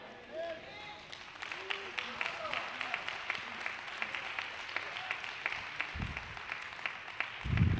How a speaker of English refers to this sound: That's why you go ahead and clap your hands. For no other reason. If it's for no other reason, you clap your hands because somebody else is clapping their hands.